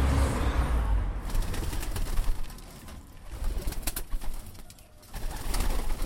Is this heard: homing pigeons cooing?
yes